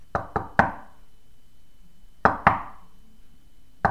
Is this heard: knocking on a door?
yes